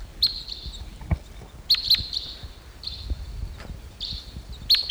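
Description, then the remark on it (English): Two wild birds coming in to perch toward the top of a medium-sized Ponderosa pine give a chittery call rather than flight calls: sharp high-pitched notes trailing into thin sustained whistles, in four or five bursts over a soft rustling background, with no voices. “Here comes a bird.”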